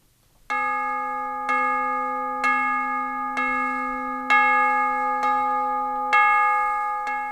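Bells ring out in repeated, sustained strikes with long overlapping decays, each new chime arriving roughly every second or so, clear and prominent against a quiet musical background with no voices.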